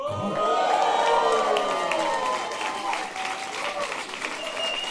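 An applause sound effect: loud, steady applause from a crowd fills all five seconds, with dense rapid clapping and rising whoops and cheers on top, fading slightly toward the end.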